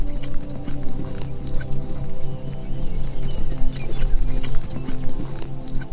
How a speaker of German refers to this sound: Fröhlich wiehert die Stute dir zu, als du dich umblickst, um nach ihnen zu schauen.